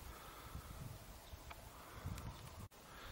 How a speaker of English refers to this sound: Ah, it's a bit windy though.